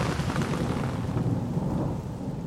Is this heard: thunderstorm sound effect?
yes